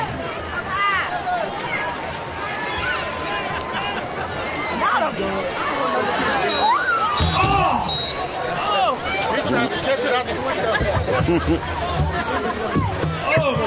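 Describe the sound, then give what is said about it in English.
Little footballs, thrown into the audience after a Cubs touchdown at a football game, knock against the side of the press box, a few irregular dull thuds rising out of a steady murmur of crowd chatter and voices. “Some of them are hitting off the side of the press box here.”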